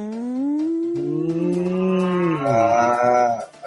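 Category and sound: animal, ox mooing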